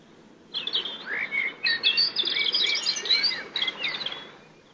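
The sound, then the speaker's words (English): Several birds sing and chirp together in a lively, continuous chorus of quick whistled notes and trills, clear over a soft background hush, with no talking. “Listen to the birds.”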